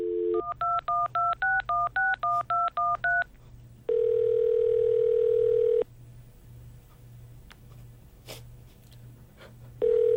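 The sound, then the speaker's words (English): A rapid run of about a dozen touch-tone keypad beeps as a woman dials a phone, followed by a long steady phone tone, then a quiet pause and another tone starting. A low electrical hum runs throughout. “reaches for the phone. She dials.”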